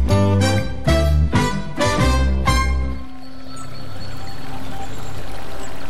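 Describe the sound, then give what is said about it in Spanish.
Several loud, rhythmic musical chords give way to the steady rush of a flowing stream in Córdoba, with a faint splash as a bare toe is dipped into the water, continuing alone to the end. “Ese momento en que te descalzas, metes un dedo en el arroyo y...”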